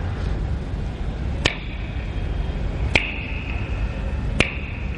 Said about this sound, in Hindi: बोले अच्छा तुम आंख बंद करो, मैं चुटकी बजाऊंगा तीन, तीन चुटकी पूरी हो जाएगी तो तुम अपनी मिसेस के हाउस में ही होगे।